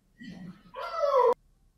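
A new puppy lets out a single drawn-out, high whine that slides downward in pitch and stops abruptly, preceded by a brief low murmur.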